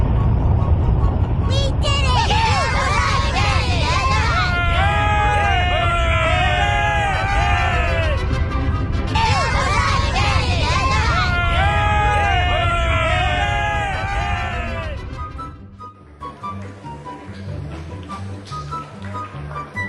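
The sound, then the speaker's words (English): A large crowd claps and cheers loudly, with many overlapping whoops and shouts rising and falling for about fifteen seconds before the noise suddenly drops to a quieter murmur. “People are applauding.”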